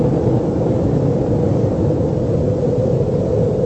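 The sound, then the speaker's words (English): A massive experimental nuclear explosion in the New Mexico desert: a deep, continuous roar rumbles steadily throughout, heavy in the low end with a noisy hiss above, holding an even loudness with no voices present. “That's an experimental nuclear explosion in our desert in New Mexico.”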